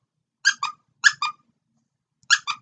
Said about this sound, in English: Sorry, had to squeak it again.